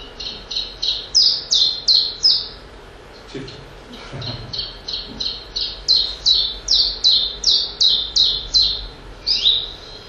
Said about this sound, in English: Willow warbler. Oh, this is a very nice descending song, very fluty, very sweet. And very different to the chip-chap, which is a bird that looks very much like it.